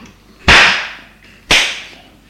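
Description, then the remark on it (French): Two loud, sharp slaps land about a second apart, each a crisp smack with a short ringing tail, and no voices around them: a father slapping his son across the face. “Le père, arrivé vers son fils, le gifle.”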